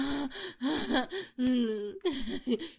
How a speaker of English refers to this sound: Oh, those little gasps, those little whines.